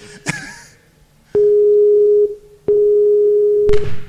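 A phone busy tone after a dropped call to New Zealand: two long, steady mid-pitched beeps separated by a short gap, preceded by a sharp click and followed by a faint rustle. No one speaks.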